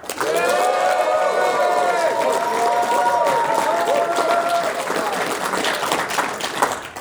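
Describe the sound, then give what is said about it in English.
A studio audience gives its opinion on the game Duck Hunt with sustained applause and cheering, several voices whooping and calling out in overlapping tones over steady, dense clapping that holds loud for about seven seconds. “Anyway, what do you think, audience? Let's hear your opinions on Duck Hunt.”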